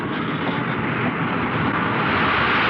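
A steady, loud jet engine roar with a broad rushing hiss holds constant throughout, from a private jet landed at the airport in Nassau. No voices are heard.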